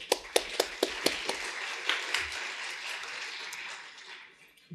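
Audience applause after a presentation on Ethereum ewasm: a crowd of hands clapping, with a few sharp, evenly spaced claps standing out at the start before the dense patter gradually fades away.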